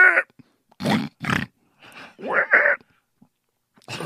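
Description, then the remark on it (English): A played recording of pigs grunting and snorting in a series of short, loud bursts, some rougher and some higher and squealier, with brief pauses between them. “So underneath that hole, pigs. Just waiting to get a really shit good in their impression, mouth.”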